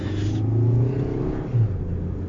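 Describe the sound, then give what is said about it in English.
A Kia Soul car engine of about 120 horsepower accelerates with a steady low rumbling drone, its pitch shifting as it revs, fairly loud with no voices. “Did you hear the horses purr, all 120 of them?”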